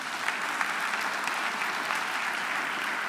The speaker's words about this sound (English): Let's give the Lord a clap offering for that.